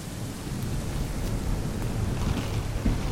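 Steady, heavy rain pours down in a dense hiss outside the Carousel Treehouse in the woods, with a deep low rumble of thunder rolling underneath throughout. No voices, just the continuous wash of the storm.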